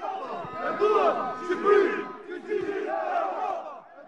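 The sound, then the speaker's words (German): A large protest crowd at an opposition demonstration in Albania chants a slogan in unison, echoing 'We want an Albania like all of Europe', many voices rising and falling in rhythmic phrases, loud and sustained for several seconds. “Woraufhin die Menge echot: Wir wollen Albanien wie ganz Europa.”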